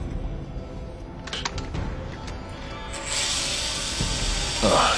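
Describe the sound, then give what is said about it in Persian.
A few sharp mechanical clicks give way to a steady, harsh grinding hiss as a hand drill bores into a person's skull through the middle of a cut in the scalp, building in intensity toward the end. “و دریل دست منو میخوام جمجمه دوستتون رو سوراخ کنم.”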